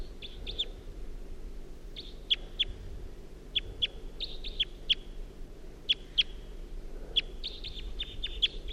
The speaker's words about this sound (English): Wild bird.